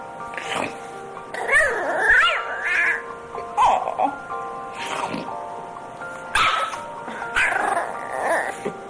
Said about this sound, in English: The wife is holding the dog. See if you hear the dog say, I love you.